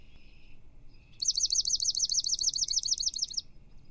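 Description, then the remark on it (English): A swamp sparrow sings a single clear, rapid trill of evenly repeated sweet notes lasting about two seconds, prominent over a quiet low background hum. “So here is the swamp sparrow.”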